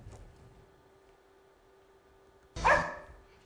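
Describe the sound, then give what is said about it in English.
A single sharp dog bark rings out after a few seconds of quiet room tone, with a faint steady hum underneath. “One bark.”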